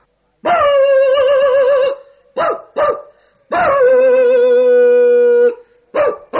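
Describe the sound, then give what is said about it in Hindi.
Dogs of a neighbourhood bark and howl loudly at midnight, two long wavering howls broken up by a few short, sharp barks, with no voices present. “कुत्ते भौंक रहे हैं, बड़ी अम्मा चली आ रही हैं।”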